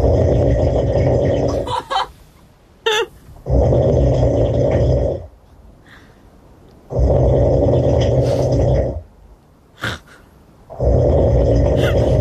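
Loud, rattling human snores recorded last August come in long rhythmic breaths, three big rumbling inhales separated by quieter pauses with brief snorts and sputters between them.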